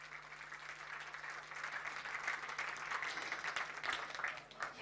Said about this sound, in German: Eine große Runde Applaus bitte.